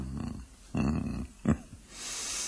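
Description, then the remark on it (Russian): A jester on all fours imitates a sleeping dog with low snoring grunts, a short sharp snort, and then a long breathy exhale, with no words spoken. “изобразит спящую собаку.”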